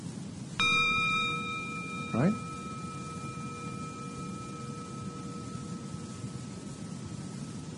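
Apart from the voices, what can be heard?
gong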